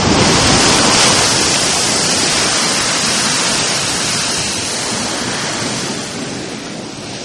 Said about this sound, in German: Man muss sich schon ein wenig gedulden. 8 bis 10 Minuten liegt das Wasserloch völlig ruhig da. Dann plötzlich wölbt sich das klare Wasser in einer Kugel empor, aus der der Wasserstrahl 25 bis 35 Meter nach oben schießt.